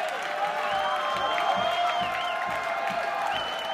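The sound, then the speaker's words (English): A sold-out concert crowd roars and cheers steadily, with scattered whistles and whoops rising over a dense wash of applause and shouting that stays loud and continuous throughout. “Sold out crowd. Loving every minute.”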